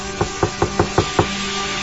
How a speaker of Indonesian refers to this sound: Aku coba kamar mandi yang sebelahnya, yang satu lagi. Ku coba mengetuk kamar mandi itu.